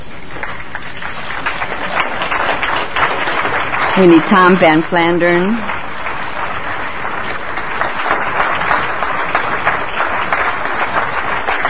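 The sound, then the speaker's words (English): Steady closing applause from an audience for the guest speakers invited up to the platform fills the whole stretch, a dense patter of many hands clapping, while a man's voice calls out briefly over it partway through. “I really would like to invite all of our guest speakers up here to the platform so that we can give them the appropriate closing applause, please.”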